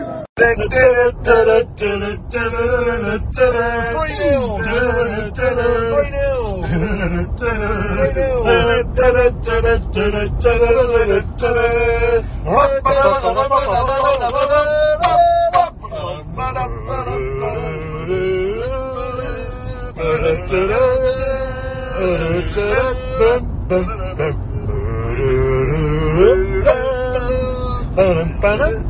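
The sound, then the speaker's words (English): A steady low rumble of road noise inside a car driving back from a football match runs throughout, mostly buried under loud, overlapping voices of fans chanting "3-0 to the Albion" together. “it's Sports Report in the car on the way back”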